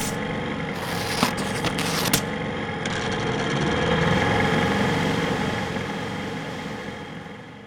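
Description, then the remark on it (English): The 220-horsepower outboard engine of an 18-foot speedboat drones steadily, a continuous mid-pitched rumble with a few brief scraping bursts early on, swelling slightly in the middle before easing off. “one of them an 18-foot speedboat with a 220-horse outboard motor.”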